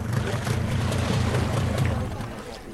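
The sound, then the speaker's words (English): Ambience at a brand new fish market in Banda Aceh, Indonesia: a steady low drone like a boat engine rumbles continuously, with an indistinct wash of background activity and faint voices, fairly loud throughout. “I'm at the brand new fish market in Banda Aceh.”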